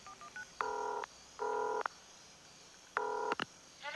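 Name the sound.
telephone being dialed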